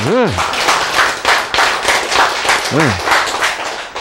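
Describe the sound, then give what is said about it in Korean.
A burst of group applause, dense steady clapping lasting a few seconds, with two brief swooping tonal chirps cutting through, one at the start and one near the end. “박수! 여러분.”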